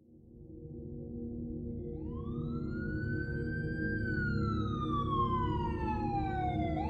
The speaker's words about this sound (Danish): Den 13. november 1996 vågnede beboerne på Vesterbro i København op til hylende sirener.